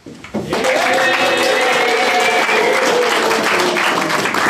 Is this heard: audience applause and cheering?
yes